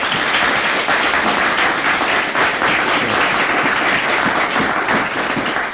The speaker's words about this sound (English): Well, let's give all those coaches some applause, huh?